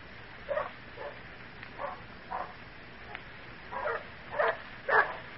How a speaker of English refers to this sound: Badger, Rufus, Barney, come here. Stop that barking. Lie down. Be quiet, will you?